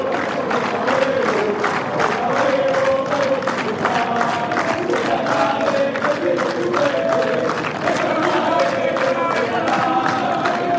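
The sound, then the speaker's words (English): A tennis crowd sings a chant in unison, the melody rising and falling steadily over a dense, loud wash of cheering and clapping that continues throughout. “I hope it's polite what they're singing. I do too, but I'm very much enjoying listening to it.”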